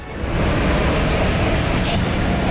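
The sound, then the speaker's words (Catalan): Steady, loud rumble of a metro train in motion, heard from inside the carriage, with a continuous low roar and rattling noise that swells in at the start and holds throughout. “És algú que somia que va en metro.”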